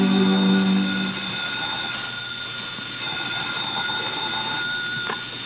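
telephone ringing

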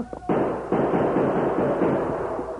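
gunshots

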